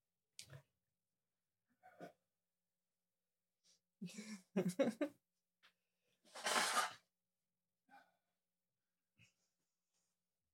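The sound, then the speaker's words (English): A person blows their nose once, a loud, breathy, hissing burst lasting under a second, surrounded by scattered short sniffs, snorts and soft rustling, with no talking. “I gotta blow my nose.”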